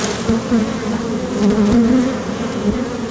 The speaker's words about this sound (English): So what I did was I just tapped the edge of the frame onto the other frame. And what it did basically was just shake the bees all free, and so now they're more flying.